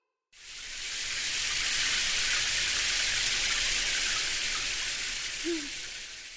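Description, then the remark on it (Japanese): A shower runs in a steady, hissing spray that starts abruptly and continues without a break, as water rinses someone's body off before they get into the bathtub. No voices are heard. “はい、シャワーで体を流して、さっさと湯船に入って。”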